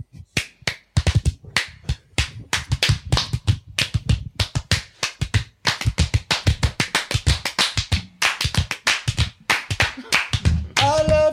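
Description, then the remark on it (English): Clackety-clack of a cursed group walking as skeleton bones: a steady stream of sharp, hollow clicks and clacks in a quick, uneven rhythm, continuing for several seconds, with a brief tonal sound at the very end. “Our walking now makes clackety-clack noises because we're bones.”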